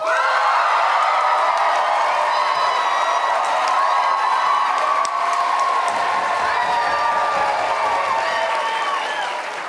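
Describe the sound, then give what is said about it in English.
A crowd applauds and cheers loudly and steadily for the cat side in an applause vote between dogs and cats, with whoops and high yells rising over dense clapping throughout, easing slightly near the end. “First, we will hear in purely applause terms, if we will hear from the dog side and then the cat side.”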